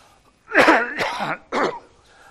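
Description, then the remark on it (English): A loud cough in two quick harsh bursts followed by a shorter third one, raspy and throaty, with no talking over it. “Would anyone like a cough? I could give you one.”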